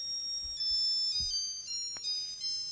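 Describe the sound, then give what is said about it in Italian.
A small alarm clock rings with thin, high-pitched electronic tones that hold steady and shift pitch a few times, with a sharp click partway through and no voices. “Sì, ma lei se non fa sentire la sveglietta dell'orologio.”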